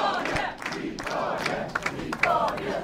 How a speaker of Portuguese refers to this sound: Apontar para a vitória da Aliança Democrática, grita-se vitória, vitória, no Hotel Sana Marquês, Luís Montenegro a fazer esse discurso.